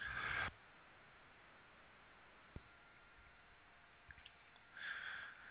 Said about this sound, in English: Let me clear my throat real quick.